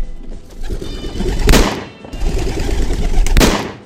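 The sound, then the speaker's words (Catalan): Two sharp, loud gunshots about two seconds apart, fired by two shooters at two pigeons released by a referee, each with a bright crack followed by a rumbling tail, over a busy outdoor background with birds fluttering. “L'àrbitre deixa anar els dos coloms. L'Anny i en Frank disparen.”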